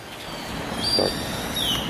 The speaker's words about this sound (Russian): Вот птички поют с утра. Сейчас где-нибудь 8:30 по местному времени.